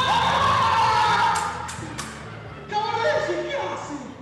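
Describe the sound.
A lively crowd at a theater production under a big top in Argentina, with half of the 800 seats filled, cheers and shouts with excitement, a dense wash of many voices, some children's cries rising above it, with a few bursts and thumps from the audience.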